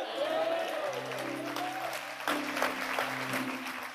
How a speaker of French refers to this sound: Si vous comprenez là, vous allez applaudir.